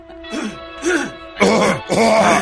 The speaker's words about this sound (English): Let me clear my throat. Sorry.